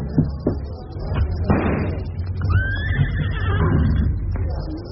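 A horse whinnies once partway through, a brief wavering high neigh rising over a busy background of low rumbling noise and a few dull knocks.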